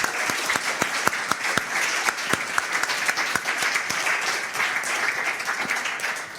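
An audience applauds steadily, many hands clapping in a dense, continuous wash with a few sharper individual claps standing out, holding at an even level throughout.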